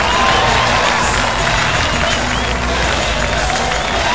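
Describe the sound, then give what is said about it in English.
A large wrestling crowd cheers loudly and steadily as wrestler Todd "Nightmare" Knight makes his entrance through the crowd, a dense roar of shouts and applause with no break in the noise across the whole stretch. “It's Todd Nightmare Knight, and listen to this crowd completely pop for the Nightmare!”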